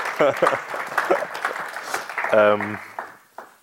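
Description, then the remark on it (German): A crowd gives itself a round of applause for a few seconds, a dense patter of hands, with a couple of voices calling out over it before the applause tapers off. “Komm, wir geben uns mal gegenseitig einen Applaus, oder?”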